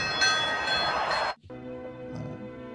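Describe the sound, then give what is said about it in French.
A loud, bright bell, rung on cue by the broadcast control room, rings out with shimmering metallic overtones, then cuts to a softer, steady humming resonance for the remaining second or so, with no voices. “La régie, faites sonner la cloche.”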